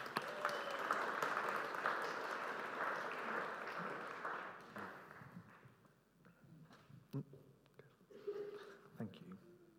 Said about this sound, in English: Can you give him a little round of applause? Thank you very much.